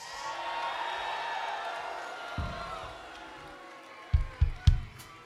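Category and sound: crowd, audience cheering and whooping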